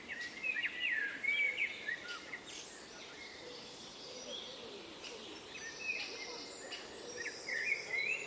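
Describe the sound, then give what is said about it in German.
Outdoor morning ambience at 7:55 on 30 May 2021, on a small path between railway tracks and the back of a housing estate in Essen, by dead wood with a woodpecker hole in overgrown thicket: scattered bird calls and chirps, some bright phrases near the start and end, over a steady insect-like hiss and a low background rumble. No one speaks. “Mai 2021, 7.55 Uhr, kleiner Weg zwischen Bahngleisen und Rückseite Siedlung in Essen. Atmo an Totholz mit Spechthöhle, verwildertes Gehölz.”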